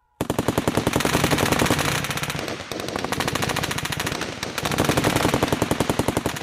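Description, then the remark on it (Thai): Sustained bursts of rapid machine gun fire, a fast steady rattle of loud shots that briefly dips around the midpoint before resuming at full intensity, with no voices. “ปืนกลเป็นอาวุธสงครามที่คนรู้จักกันดีแต่เป็นอาวุธที่เพิ่งถือกำเนิดจริงๆได้ประมาณ100ปีมานี้เองโดยโลกรู้จักความร้ายแรงของปืนกลครั้งแรกในช่วงสงครามโลกครั้งที่1”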